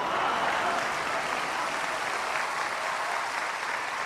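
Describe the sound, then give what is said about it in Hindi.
Sustained applause from a large audience, a dense steady wash of clapping that holds at an even, fairly loud level throughout without pause or talk over it. “और शायद अगली पंक्ति पर फिर ज्यादा तालियां बजे”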